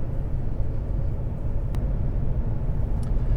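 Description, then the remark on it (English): Steady, low road rumble and engine hum from inside a moving German car as it is driven, even and subdued throughout, with a couple of faint brief ticks and no voices. “It's just so silky smooth. And quiet.”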